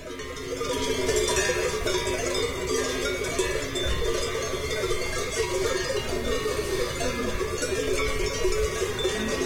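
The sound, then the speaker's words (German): Many bells clank and ring at once in a dense, continuous jangle of overlapping metallic tones, steady in loudness throughout with no voices. “Die Glocken deuten es jetzt hier am Ende schon mal an.”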